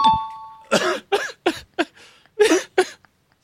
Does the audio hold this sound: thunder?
no